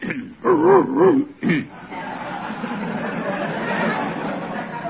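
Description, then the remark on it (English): A few close, wavering yelps and a short bark sound out, followed by a steady murmur of a crowd chattering in the background. “Do you have a dog in your pocket?”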